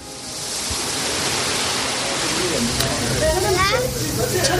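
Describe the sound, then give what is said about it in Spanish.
A steady roar of Atlantic Ocean waves washing onto a beach on the Senegalese coast, continuous with no clear gaps, with faint voices briefly surfacing beneath the surf near the end. “1.500 kilómetros en línea recta desde esta playa.”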